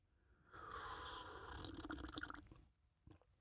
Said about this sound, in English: Some of you are so good at listening that you can actually tell what I'm drinking just by the sound of the sip.